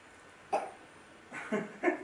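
A few short, soft coughs from a small child, three quick bursts spread over two seconds, with no talking.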